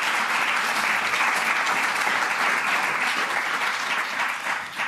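An audience at an SMD event claps steadily for a school student called to the front, a dense wash of many hands applauding at a constant level for several seconds, with no one speaking over it.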